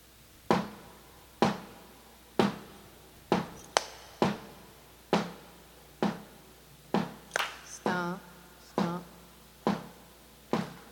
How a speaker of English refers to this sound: It's a stomp, stomp, stomp clap